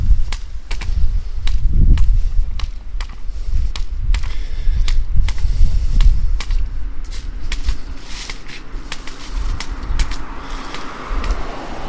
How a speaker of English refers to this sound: Hopefully the wind does not make too much background noise, as it's very windy today. I do have a wind shield over the top of the recorder, but I don't know, it's pretty windy.